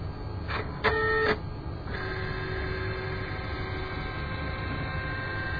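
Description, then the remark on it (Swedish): A flatbed scanner, run straight to a scan without a preview, whirs into motion with a short mechanical clatter, then settles into a steady motor whine with a faint tonal hum as the scan head travels. No one speaks. “Vi kör scan direkt.”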